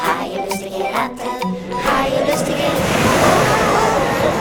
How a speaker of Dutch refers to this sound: De golven sloegen over het dek. De wind beukte in de zeilen en deed de andere masten wankelen. Het schip rolde en stampte als een op hol geslagen paard.